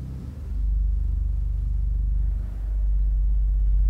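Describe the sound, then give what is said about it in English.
A deep, sustained pipe organ contraviolon tone rumbles steadily with a buzzing, purring low pitch and audible air, swelling in after a brief start and holding loud with a slight dip midway. No one speaks. “And then there's a contraviolon.”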